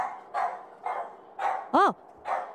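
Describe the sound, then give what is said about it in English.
A dog named Louis barks at strangers in a quick series of five sharp barks, one louder and higher-pitched than the rest, with no one speaking. “It's not nice to bark at strangers.”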